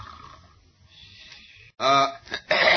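An elderly hotel clerk snores in a chair behind the desk in the deserted lobby of the Fisherman's Inn in San Selmo, a low rumbling breath giving way to loud, raspy snorts and a gasping intake near the end, unaccompanied by talk.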